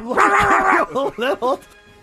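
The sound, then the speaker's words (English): A person imitates a dog: one long, wavering yowl followed by three quick, sharp barks in a row, loud and voiced, then silence. “Just think all those years of tuition, and now I'm barking like a dog, Dad.”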